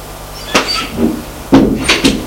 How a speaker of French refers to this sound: D'entrée, il va sous les escaliers. Ouvre une porte,